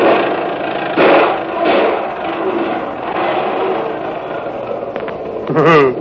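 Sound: old car engine running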